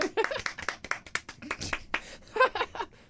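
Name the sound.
hand clapping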